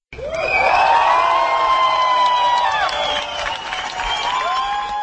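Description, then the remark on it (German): A large crowd of about 300 artists and cultural representatives at a protest rally cheers and shouts steadily on a Thursday morning on Marienplatz in front of Prague City Hall, as a culture petition's roughly 13,500 signatures are announced. High whoops and rising yells over a dense wash of voices, loud throughout with a brief dip near the end. “So turbulent ging es am Donnerstagvormittag auf dem Marienplatz vor dem Prager Magistrat zu, als verkündet wurde, dass die seit einer Zeit kursierende Petition mit dem Titel für ein Prag der Kultur rund 13.500 Menschen unterschrieben haben.”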